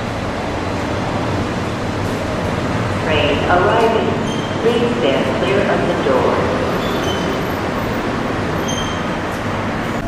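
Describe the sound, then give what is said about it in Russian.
An airport AirTrain monorail pulls up to a platform in an elevated glass tunnel with a steady, broad rumble, its approach peaking midway with a brief rising whine before settling, while muffled voices murmur in the background. “Вот к нам поезд приближается.”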